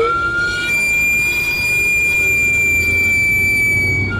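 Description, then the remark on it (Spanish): A Mexican sweet potato vendor (camotero) cart's steam whistle, steam escaping from the cart where sweet potatoes and plantains cook, shrieks in one long, steady, high-pitched tone, loud and unbroken for several seconds over a low rumbling background, with no one speaking. “Es el inconfundible chiflido del camotero, un sonido que ha acompañado las noches de muchas generaciones.”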